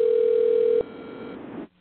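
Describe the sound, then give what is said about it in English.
A steady, loud electronic telephone tone holds one mid pitch for under a second, then cuts off abruptly, leaving a fainter buzzy line noise that fades out soon after. “Well, we're hearing a ringing in the background here”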